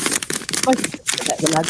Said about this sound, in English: Who's rustling a bag? Is that it's a backy packet.